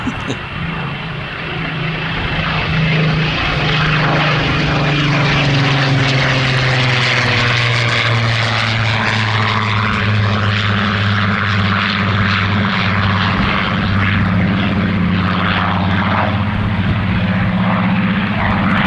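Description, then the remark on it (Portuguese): A loud, continuous propeller aircraft engine roar from a Griffon-engined Spitfire, steady, with strong low harmonics and a slowly shifting pitch as the plane passes. “Vamos ouvir o ronco do Griffon, que parece ser muito bom.”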